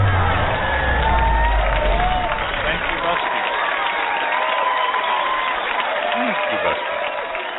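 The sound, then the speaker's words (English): A crowd cheers and claps steadily for several seconds outdoors in warm, rainy weather, a dense wash of many voices and hands that stays fairly loud throughout, with a few louder shouts rising out of the noise. “It's warm here, so they have to cheer, yeah.”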